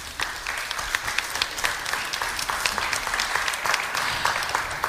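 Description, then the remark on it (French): A crowd applauds loudly and steadily for several seconds for the event's sponsors, a dense wash of many hands clapping with sharp individual claps popping out of the continuous roar. “Les applaudis tous très fort, s'il vous plaît.”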